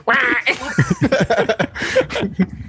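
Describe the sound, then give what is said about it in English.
A person imitates a goose honking "Batfleck!" with a loud, nasal, drawn-out vocal squawk. This is followed by a string of choppy, quacky vocal bursts that sound partly like laughter. “And it's just a goose going, Batfleck!”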